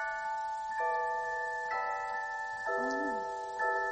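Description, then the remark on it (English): A pocket watch chimes a slow little tune, its soft, sustained ringing tones shifting to a new note roughly every second, with no voices over it. “Listen to it chime.”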